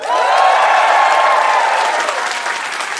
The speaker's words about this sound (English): But you are here in time for the Krishmish special. So just to meet everyone as a crowd, give me a round of applause if you've ever heard our show before.